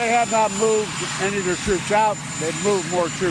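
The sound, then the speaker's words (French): A man speaks steadily over a loud, continuous engine roar with a high, thin whine of a helicopter that the US president is about to board for a trip to Ohio. “Le chef de la diplomatie le dit à la tribune de l'ONU et le président américain aussi, juste avant de monter dans un hélicoptère pour un déplacement dans l'Ohio.”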